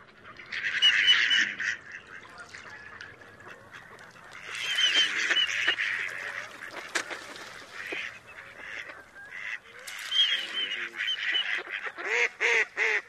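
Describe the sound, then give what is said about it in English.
Mallard drake courtship whistles mixed with a hen's quacking at the drake, arriving in several loud bursts of chattering duck calls with brief lulls between, ending in a rapid run of quacks. “So let's hear some male courtship whistles from the mallard.”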